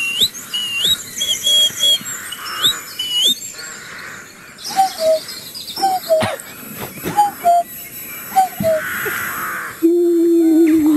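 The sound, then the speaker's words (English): Steve Coogan, as the character Alan Partridge, imitates bird calls, producing a varied string of whistled chirps, squawks and caw-like cries with brief pauses, ending in a sustained low warbling hoot. “I love birds, and I like to come here and make bird noises.”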